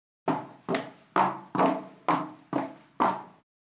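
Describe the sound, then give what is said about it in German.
Seven crisp women's footsteps in a steady, even walking rhythm, each a sharp click with a short ringing tail, clear with no talking, recorded as take two. “Take two. Damenschritte.”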